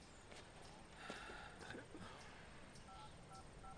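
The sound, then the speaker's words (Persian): A few short beeps from a phone keypad being pressed one after another in quick succession, fairly faint against a rustling outdoor background in a forest, as someone calls the natural resources officers. “مامورای منابع طبیعی رو خبر میکنم. بذار یه لحظه. چرا تلفن ازم میگیری؟”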